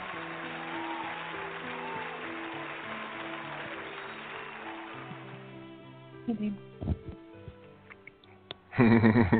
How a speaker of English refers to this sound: I like to let the music play all the way out.